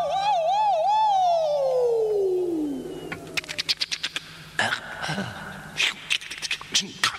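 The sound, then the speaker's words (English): An ambulance siren wavers briefly, then winds steadily down in pitch and dies away, followed by a run of sharp clicks and knocks. “Tranquille, j'entends la sirène.”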